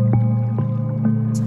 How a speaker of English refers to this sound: Smell the grass, the clear fresh air, the smell of the water and the damp stones that sit just beneath the surface of the babbling stream.